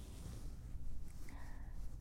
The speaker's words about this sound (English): And I'll keep brushing your ears like this. Does it feel good?